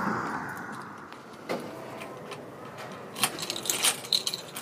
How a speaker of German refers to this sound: Was wir hier hören, ist der Schlüssel der Stadtbibliothek Bremerhaven. Wir gehen durch den Haupteingang rein